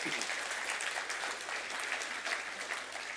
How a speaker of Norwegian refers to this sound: Skal vi gi Jesus en skikkelig applaus i formiddag?